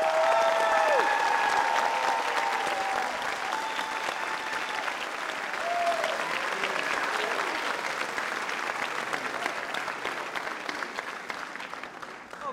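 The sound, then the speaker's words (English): A crowd at a graduation ceremony claps steadily and loudly for the graduates, a dense wash of applause with scattered whistles and cheers rising above it, tapering slightly toward the end. “A round of applause for these wonderful graduates.”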